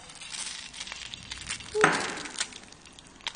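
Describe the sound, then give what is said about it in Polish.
An egg is slid from a plate into hot fat in a frying pan, marked by a single sharp clink of plate against pan amid a steady crackling sizzle with small pops. “Wkładamy jajko na rozgrzany tłuszcz.”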